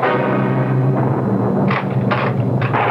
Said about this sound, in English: The window is open and the shutter is banging back and forth.